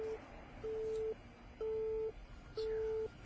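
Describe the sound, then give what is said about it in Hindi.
A steady telephone busy tone after a call is cut off, repeating in even beeps of about half a second with short gaps, mid-pitched and fairly loud over a low background hum. “क्या काट दिया?”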